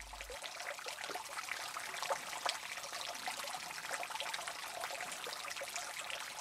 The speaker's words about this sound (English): from that showerhead formation, not the king's shower, but that formation along the main passage, big active flowstone underneath this constant dripping. Even though it was pretty dry there, this thing was going pretty good. Check this out. Listen.